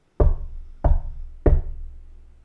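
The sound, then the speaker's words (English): Three heavy knocks on a door late at night, well past trick-or-treating hours, evenly spaced about two-thirds of a second apart, each a deep booming thud that rings out briefly before the next, with no voices. “When I was 8, the knock sounded again.”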